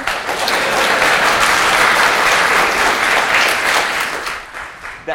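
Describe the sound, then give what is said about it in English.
An audience at a talk applauds the speaker's arrival steadily for about five seconds, a dense, loud wash of clapping that holds even before easing off slightly at the end. “I take it that applause is for me actually showing up to a talk.”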